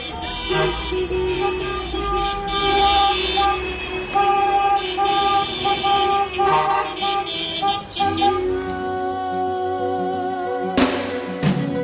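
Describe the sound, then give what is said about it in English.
Loud, sustained truck horns blare over rumbling engines in a convoy of trucks and cars driving a lap of Birr, several overlapping tones holding for long stretches with brief pauses, like a passing line of big vehicles sounding off. “Oh, now the trucks are joining in.”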